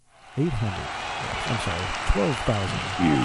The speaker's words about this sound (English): 12,146 unique listeners and 86,771 podcast downloads. We need a cheer queued up right now. That's awesome.